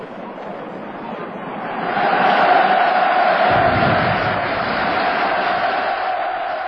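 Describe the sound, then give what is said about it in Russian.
A large crowd roars and cheers, rejoicing at victory and the first day of peace with a victory salute, in a sustained, dense wash of voices that swells louder after a couple of seconds and stays loud and continuous to the end. “И он наступил с ликованием народа, с салютом победы, мир, в котором живем мы 42 года и который завещано нам хранить.”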